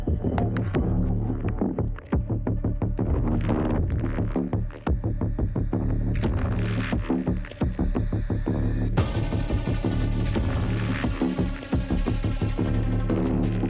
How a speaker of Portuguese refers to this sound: O que pesa mesmo é isso aqui, ó. E eu acho que você tem que ouvir esse ronco do motor V8 comigo lá na estrada, vamos?